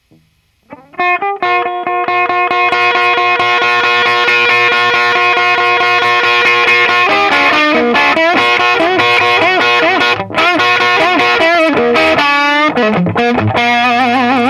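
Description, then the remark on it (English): A distorted electric guitar played through an amp that is being slowly dialed up rings out with a sustained, harmonically rich chord that holds for several seconds, then breaks into a choppier riff with quick note changes and brief cuts, loud throughout with no talking. “Bring it down again to about 9 o'clock and just play a minute so you can hear how, because you could hear it start distorting.”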